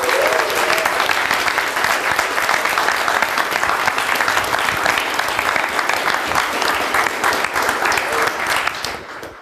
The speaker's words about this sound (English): if we could all just kind of give him a round of applause, it'd be great.